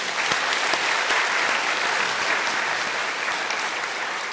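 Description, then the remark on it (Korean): A church audience claps together after a prayer, giving applause in glory to God, in sustained, dense applause, a steady wash of many hands at even loudness for several seconds with no voices over it. “우리 하나님께 영광의 박수를 한번 드리십시다.”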